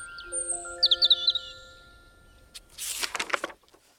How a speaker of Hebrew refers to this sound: ואז הוא הביט החוצה דרך החלון, וראה שם חורשה, ושמע ציפורים מצייצות.